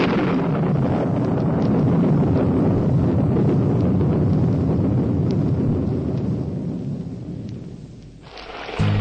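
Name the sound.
heavy rain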